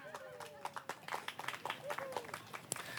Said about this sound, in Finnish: Me saatiin 18 puuta. Mä haluan kiittää kaikkia lahjoittaneita. Annetaan aplodit heille.